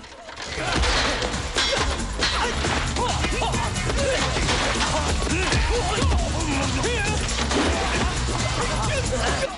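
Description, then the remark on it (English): Clanging metal ladder crashes mixed with sharp punches and thwacks in a busy fight, as a man traps another man under an open metal ladder and punches him. Loud, over a noisy backdrop with scattered voices and grunts. “Jackie traps a guy under the ladder, then punches him.”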